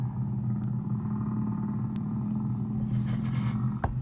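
humpback whale song

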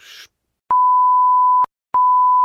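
censor beep

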